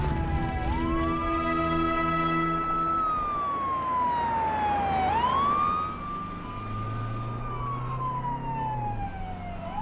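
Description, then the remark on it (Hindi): An ambulance siren wails loudly, its pitch sweeping slowly up and down in long cycles over a low rumbling engine, with no one speaking. “आप कहाँ? एम्बुलेंस में।”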